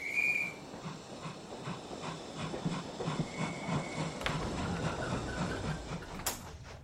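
train departing the station

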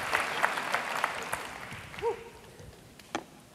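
audience clapping

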